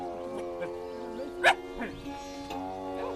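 A single sharp dog bark cuts in midway over a steady, drawn-out lowing from a calf in a barn, with soft background murmurs.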